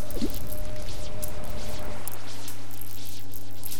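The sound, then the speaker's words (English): Shells from the beach sand being rinsed in ocean water by a man, a continuous wet sloshing with small drips and splashes over a steady low hum, no voices. “He began picking them up and washing them in the ocean water.”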